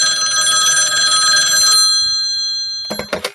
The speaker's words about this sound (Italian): In casa Wallace c'è un telefono che squilla.